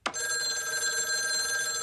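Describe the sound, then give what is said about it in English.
A telephone rings with a bright, sustained electronic bell tone that starts abruptly and holds steadily for a couple of seconds, clear, with no voices. “He walks up to the phone and answers it.”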